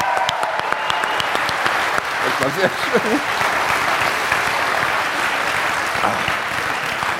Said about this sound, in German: einen Applaus bitte.